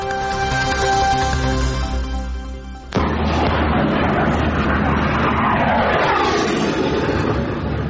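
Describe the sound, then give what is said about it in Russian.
A fire engine drives past, a steady tonal engine drone giving way to a loud broad roar that sweeps downward as it moves off, in a district of Russia's Kursk region. “Это догорает, вон тачка, даже пожарка едет, понял?”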